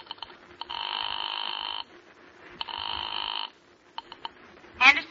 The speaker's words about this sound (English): Your hand is shaking as you pick up the phone and dial a familiar number.